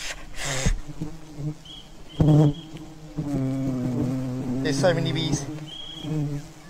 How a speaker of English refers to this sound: There's so many bees. Oh, in my ear. I'm getting stuck. The way it gets louder. The way the buzzing gets louder. That's so bad.